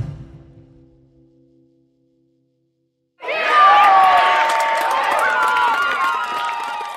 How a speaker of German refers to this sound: Ich liege links, rechts ging der Ball rein. Billing jubelt.